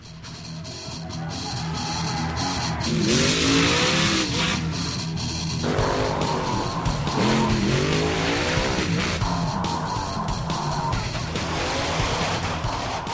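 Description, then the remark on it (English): Monster truck engines at a Monster Jam rally in East Rutherford, New Jersey, roar and rev continuously, with rising and falling pitch sweeps as they accelerate, and bursts of harsh hiss from tires skidding. Loud throughout, with no talking. “So a monster truck rally in East Rutherford, New Jersey, inspired Catherine Ryan to send this post to our new crowdsourcing project, Your Uncommon Economic Indicator.”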